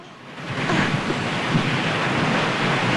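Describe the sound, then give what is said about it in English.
A strong wind rushes past the open boot of a car flying as a plane above a river and paddy fields, in a steady, loud roar, broad and unbroken for the whole stretch with only slight surges. There are no voices. “Her long blonde hair billowing in the wind, she struggles to shut the boot.”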